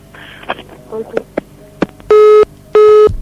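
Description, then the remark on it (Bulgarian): A telephone line to a live broadcast interview guest drops with a few faint clicks and noises, then two loud, steady busy-tone beeps repeat at an even pace, clear. “Загубихме връзка с госпожа Костова.”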